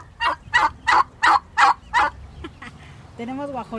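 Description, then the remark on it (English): Turkeys raised by a family at home gobble in a quick, rhythmic run of about six loud, rattling calls, followed near the end by a brief stretch of someone talking. “During their months of confinement, the family started a garden and began raising turkeys, chickens, and ducks.”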